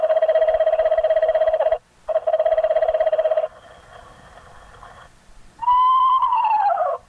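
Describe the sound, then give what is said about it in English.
Pre-recorded owl calls blare from a field loudspeaker: two long, steady, buzzy hoots with a short gap, a quieter wavering stretch, then a loud call that slides downward in pitch. “Suddenly, the field loudspeaker lets off his first chorus of pre-recorded owl calls.”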